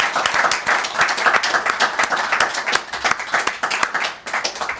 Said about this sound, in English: Round of applause